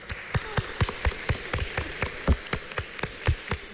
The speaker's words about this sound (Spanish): Y un fuerte aplauso a estos esposos.